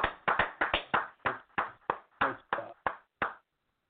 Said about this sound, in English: Let's give this brother in the Most High hand clap of praise.